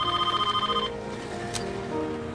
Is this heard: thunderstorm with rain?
no